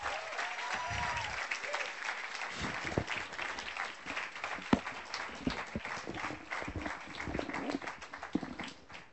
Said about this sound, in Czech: Pojďme Gedeonovi zatleskat ze vší síly.